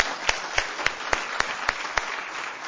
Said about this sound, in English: I want to just give them a round of applause.